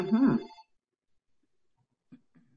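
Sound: telephone ringing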